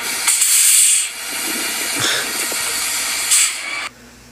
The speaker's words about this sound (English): That was the bus from the intro. The bus pulled back up.